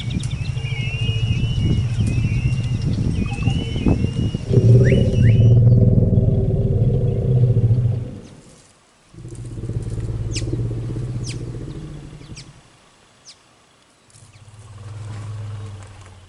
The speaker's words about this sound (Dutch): Ik heb het geluid ook even specifiek erbij, dus die zal ik eerst even laten horen. Als een olifant dus naar een andere olifant iets zegt, dan is dit bijvoorbeeld een naam van een olifant.